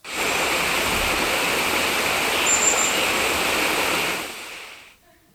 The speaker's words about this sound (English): John hears a voice like the voice of many waters.